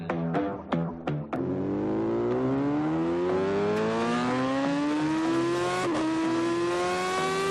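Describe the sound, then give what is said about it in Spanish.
A Yamaha motorcycle engine barks through a few quick throttle blips, then settles into a loud, sustained rev that climbs steadily in pitch for several seconds, with no voices. “arrancar, como siempre, nuestro programa con una buena Yamaha de motos Payán Payán”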